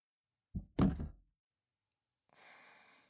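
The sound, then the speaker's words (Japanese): A chair is shifted aside: a short double thud as it is lifted and set down, then after a pause a softer scraping rustle. No voices are heard. “椅子もどかして”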